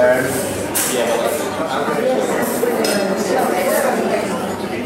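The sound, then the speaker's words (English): Loud, busy cafe ambience in the cafe at Tate Britain, recorded by a hidden microphone: a steady wash of overlapping voices and chatter, with sharp clinks of cups, dishes and cutlery popping out every second or so. “So this one's hidden in the cafe.”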